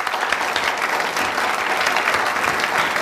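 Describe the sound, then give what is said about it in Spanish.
Sustained audience applause, a dense steady wash of many hands clapping at once, loud, with no voices standing out over it. “Reciban con un fuerte aplauso a una chica muy divertida cuyo nombre querrán recordar.”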